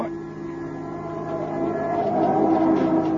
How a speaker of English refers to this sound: Wow. Oh, that crazy cab driver. He almost skidded right into us. It wasn't his fault. It's this road. It's like glass. An oil truck overturned here a few days ago. They tried to sand it down, but it's still slippery.